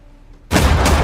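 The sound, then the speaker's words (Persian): After a brief near-silent moment, gunshots erupt abruptly into a loud, continuous roar of noise that carries on to the end without pause. No voices are heard. “صدای شلیک شنیده شد.”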